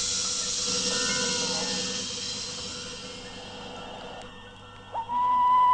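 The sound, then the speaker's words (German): An owl hoots once near the end, a clear sustained hoot that comes in suddenly after several seconds of soft, airy hissing, with no talking. “Schnick, schnack, was ist was? Schnell zur Eule wird der Has.”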